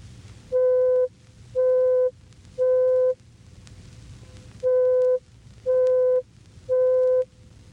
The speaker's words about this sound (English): If we change the frequency, we also change the pitch. By increasing it to 523 cycles per second, we hear C sub 5, which is the fifth C starting from the left on the piano keyboard.